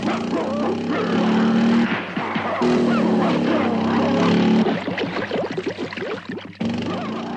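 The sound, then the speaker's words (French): A motorcycle engine roars steadily as it is ridden off toward Paris, its drone broken by a couple of abrupt cuts, while two large dogs chasing it bark and yip excitedly over the engine noise. “ne trouve son salut qu'en sautant sur sa moto pour regagner Paris.”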